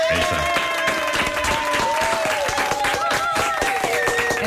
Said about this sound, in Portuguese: Eu gostava de pedir uma grande salva de palmas para a minha avó